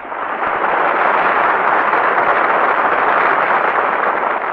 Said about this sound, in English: All right, Bing, you hear that applause? It's all for you. Folks in the Kraft Music Hall are mighty anxious to hear you sing.